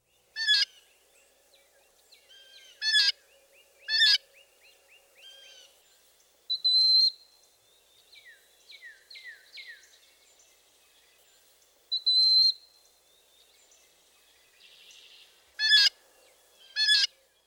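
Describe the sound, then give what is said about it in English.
A blue jay gives harsh, raspy calls in short bursts, mixed with two high, thin, drawn-out whistles imitating a broad-winged hawk, plus a few quick descending notes. It is fairly loud, with no talking. “Next, listen to the jay mimic the whistle of the broad-winged hawk.”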